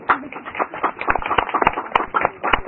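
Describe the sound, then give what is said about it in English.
A round of applause from a small group at a committee meeting, welcoming and congratulating a comrade newly deployed by the ANC as committee whip: a steady patter of hands clapping at moderate volume, with a few sharper, louder claps standing out near the end. “I think we must just welcome and give the comrade a round of applause here.”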